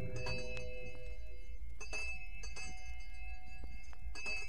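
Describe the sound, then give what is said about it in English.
A village all-clear bell rings out in several separate strikes, each leaving a bright, sustained metallic hum that lingers between hits, over a low rumbling background with faint clatter. “ring the all-clear bell.”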